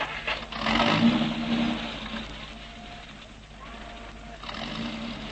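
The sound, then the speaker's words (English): The Colonel's car engine rumbles, swelling louder early on as if it starts up and revs, then settling into a steady drone that fades slightly, with no talking. “Hop in my car, Frayn.”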